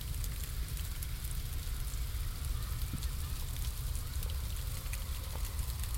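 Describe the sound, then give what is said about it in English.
Ice pellets fall steadily in cold weather, a dense crackling patter of tiny hard ticks striking surfaces over a low rumbling background, continuous with no voices. “Look at all this ice pellet.”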